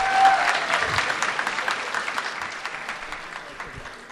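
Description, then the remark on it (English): A crowd gives spelling bee contestants a round of applause for encouragement, a dense steady patter of many hands clapping that starts strong and gradually thins and softens over about four seconds. “Let's give our spellers one more round of applause of encouragement.”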